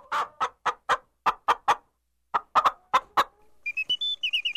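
A chicken clucks in quick bursts, two rapid runs of sharp clucks separated by a brief pause, followed by a string of higher, squeakier peeping calls. Clear, no talking.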